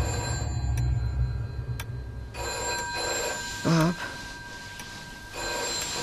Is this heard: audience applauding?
no